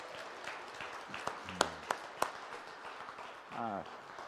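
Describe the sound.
A church audience applauds a man who has just committed to Jesus, after a candle is lit for him, in a dense, steady wash of clapping, with a few sharper individual claps standing out and a voice or two calling out over the crowd.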